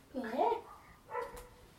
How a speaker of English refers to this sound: Yeah. You hear the woof woof? You hear the woof woof? Woof woof woof woof.